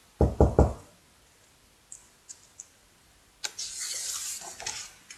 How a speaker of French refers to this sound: Soudain, on frappe à la porte.